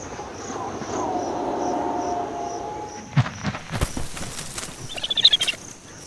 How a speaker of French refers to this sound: Le son d'un reniflement et un battement d'ailes précède un atterrissage violent, les ailes grandes ouvertes.